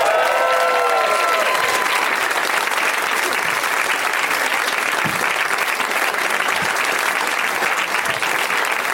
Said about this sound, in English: You have to clap until they come out.